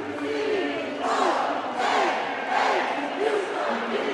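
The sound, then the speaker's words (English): A sellout arena crowd at a UConn Huskies versus Notre Dame NCAA basketball game cheers in a loud, sustained roar, with scattered whoops and high shouts rising and falling over the dense wash of noise throughout. “She came to cheer for Notre Dame, but it was the Huskies who put on a show for the sellout crowd.”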